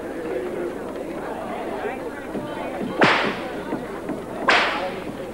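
Two sharp whip cracks, about a second and a half apart, snap loudly over a steady background of murmuring crowd chatter, as Mr. Morgan, who runs a wagon train, is buying a whip.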